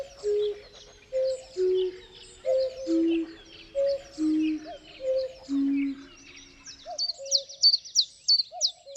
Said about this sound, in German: Jeden Frühling ist der Zilpzalp einer der ersten Zugvögel, die nach Deutschland zurückkehren. Ein unglaublich präsenter Vogel, laut zu hören und super einfach zu erkennen. Eigentlich.